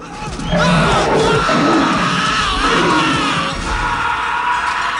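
A man screams in panic as a lion in a cage lunges at him and brings him down, loud raw cries running almost without pause for several seconds over a rough, noisy commotion that ebbs slightly near the end.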